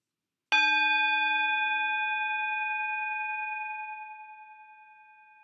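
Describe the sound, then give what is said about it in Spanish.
A gong is struck once, its bright metallic tone sustaining and slowly fading over several seconds, with steady overtones ringing on alone in the quiet. “El sonido del gong es lo que marca nuestra entrada convencional en este espacio que yo considero casi casi sagrado.”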